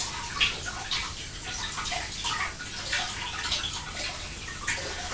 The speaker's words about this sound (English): So I'm going to wash these now with some cold water.